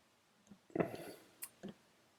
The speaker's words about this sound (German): Mache das sofort hier live, deswegen klicke ich mich gerade durch meine Spotify-Liste